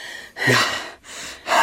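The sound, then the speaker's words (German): Three deep, hissing breaths in quick succession, fairly loud, with a muffled, airy quality, taken through an oxygen mask pulled over a helmet. No one speaks. “Ich kann endlich wieder atmen.”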